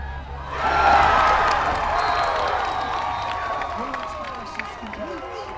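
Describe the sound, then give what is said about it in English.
A large crowd roars and cheers on a cold night at a high school football game at Justin Siena High School in California, just after kickoff between the home team and Novato High School, a swell of voices rising after the first half-second and holding steady, with scattered whoops and shouts over a continuous low rumble. “Here at Justin Siena High School in California, the football game has just kicked off between the home team and Novato High School.”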